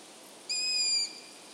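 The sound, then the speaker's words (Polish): A single young long-eared owl call: one thin, high, squeaky whistle lasting about half a second, steady in pitch, heard clearly on its own over a faint background hiss. “Młode sówki uszate po uzyskaniu samodzielności to jest mniej więcej 2 miesiące od wyklucia, czyli w przypadku pierwszego lęku to jest mniej więcej połowa czerwca, opuszczają terytorium rodziców.”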